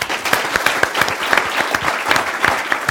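A room full of people claps steadily after an author's talk at a book event, dense overlapping handclaps with sharp individual slaps standing out, loud, with no talking over it.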